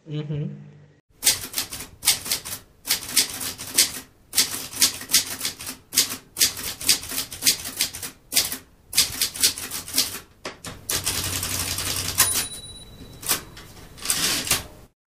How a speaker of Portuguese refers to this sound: Fique agora com algum som aleatório, provavelmente da máquina de escrever, porque eu gostei e você vai ouvir.